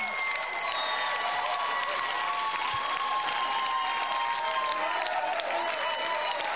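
A club audience applauds steadily as a band is introduced on stage, a dense wash of clapping that holds at an even level throughout, with faint cheers and whistles mixed in and no one speaking.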